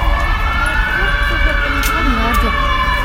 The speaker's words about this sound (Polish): Co panowie teraz słyszą? Co słyszymy? Głos samochodu z naprzeciwka. Hałas. Tramwaj. Bardzo duży hałas. Jak to w mieście, w centrum?